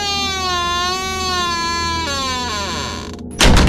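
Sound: door creaking shut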